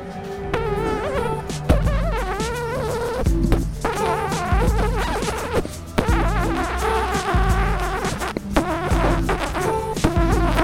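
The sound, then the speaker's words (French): A voice imitates a mosquito's whining buzz, a continuous nasal drone that wavers up and down in pitch for about ten seconds with brief breaks, fairly loud. “Tu saurais me dire quel bruit ça fait, un moustique ? Oui, bien sûr.”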